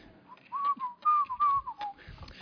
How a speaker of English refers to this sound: Just whistle now.